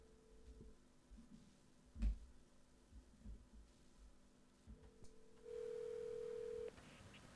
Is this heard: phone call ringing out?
yes